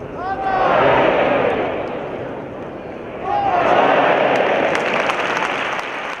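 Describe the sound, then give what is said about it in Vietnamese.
A large crowd at a bullfight in a bullring in Madrid, Spain, applauds and cheers the bullfighters in a broad, roaring wash that swells twice, with some whistles and scattered shouts rising above the dense clapping. It is the first crowd allowed to attend since the pandemic began. “Các tay này trình diễn cho một đám đông mới được tham dự lần đầu tiên kể từ khi đại dịch bắt đầu.”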